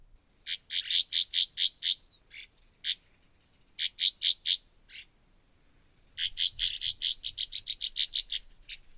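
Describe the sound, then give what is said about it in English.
A swallow's call, sharp chirping notes repeated in quick bursts with short pauses, ending in a longer rapid run of a dozen or more calls, clear with no talking. “This could add a new dimension to your canoe or kayak trips on our rivers to learn this little bird's call and see if you can figure out where they might be nesting.”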